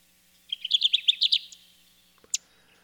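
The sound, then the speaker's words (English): A Kirtland's warbler sings on its nesting grounds, a bright, rapid burst of about a dozen loud, rising chirpy notes lasting a second, clear, followed by a single sharp call note after a pause. “It's a Kirtland's warbler singing on its nesting grounds.”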